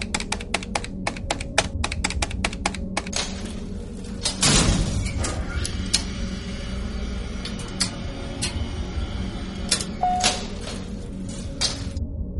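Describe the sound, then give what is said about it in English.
A rapid run of sharp button clicks as all 14 elevator buttons are punched gives way to a mechanical whoosh of elevator doors sliding, followed by scattered faint ticks and a low steady hum; no one speaks. “Every time the doors opened, the companions and islanders were ready to fight a pitched battle, but no battle came.”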